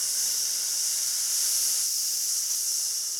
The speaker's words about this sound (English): We're going to use a tight SSS sound.